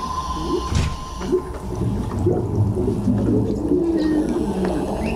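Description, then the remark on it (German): Muffled underwater ambience with fish, a steady low rumble, busy bubbling and gurgling, dolphin clicks and faint tonal calls like whale song drifting through, with no voices present. “Die Unterwasseratmosphäre setzt sich unter anderem aus Blubbergeräuschen, Delfinklicklauten und Walgesängen zusammen.”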